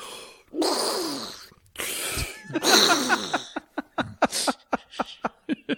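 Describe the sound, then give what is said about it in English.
A voice imitates heavy respirator breathing in a squawky Donald Duck-like tone: a few long, raspy breaths, then a quick rhythmic string of short sputtering bursts. “Mickey Mouse, but the breathing is Donald's noise.”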